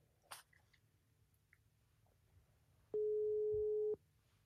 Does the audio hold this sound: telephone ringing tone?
yes